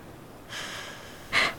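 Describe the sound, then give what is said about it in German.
A person breathes out twice: a long, soft, airy exhale followed by a shorter, sharper and louder puff of breath, with no voices. “Es war seltsam, Herr Graf. Nun rede schon. Jemand hat ausgeatmet.”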